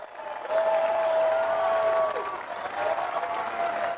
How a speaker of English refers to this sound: Standing ovation from the wonderful fans in attendance this afternoon.